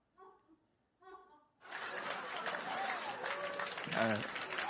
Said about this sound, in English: You guys don't have to clap. It wasn't that funny.